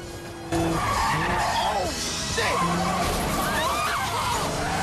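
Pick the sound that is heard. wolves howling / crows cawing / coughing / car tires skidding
car tires skidding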